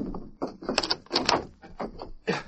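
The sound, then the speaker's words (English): A door being bolted shut: a run of heavy wooden clunks and rattling knocks, with a brief metallic scrape of the bolt sliding home, moderately loud and without voices. “I'll bolt the door.”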